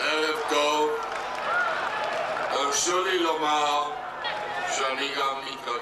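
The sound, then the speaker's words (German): A large crowd at a peace demonstration in Israel, with Prime Minister Yitzhak Rabin and Foreign Minister Shimon Peres on stage, roars and cheers continuously, many voices overlapping into a loud, dense wall of sound with scattered clapping, sustained throughout. “Sichtlich bewegt spricht Rabin zu der jubelnden Menge.”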